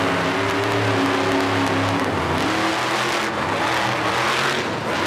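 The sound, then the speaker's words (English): A big monster truck engine roars and revs steadily, its droning tone wavering as the truck spins out donuts, with hints of tire noise scraping underneath. No voices are heard. “With a set of rear wheels that can churn independently of the front wheels, her monster truck can make super tight churns, which comes in handy if you're doing tricks or spinning out donuts.”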